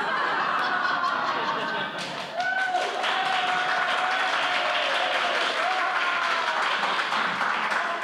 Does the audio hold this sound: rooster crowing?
no